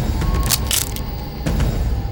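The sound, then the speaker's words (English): A twig snapping as a woman steps on it in woodland brush: a few sharp, bright cracks, the loudest two close together near the start and another a moment later, over a steady low rumbling background. “But curiosity clouded her sight, and she stepped on a twig that let out a loud snap.”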